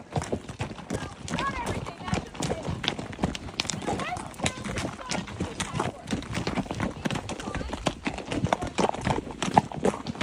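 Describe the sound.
Horse hooves clip-clop steadily on a trail in Big Bend National Park, Texas, near the Mexican border, a dense, continuous patter of hoofbeats over about ten seconds, with voices murmuring faintly underneath.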